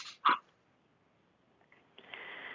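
A single short bark from another participant's dog sounds once, somewhat muffled and off-mic, followed by near silence and then a steady background hiss starting up near the end.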